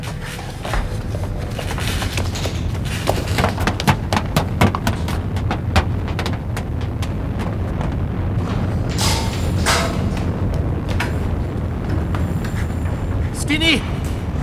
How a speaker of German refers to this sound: Die Treppe ist eingestürzt.